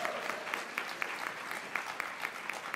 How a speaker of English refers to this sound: Let's give those winners another round of applause. Super job.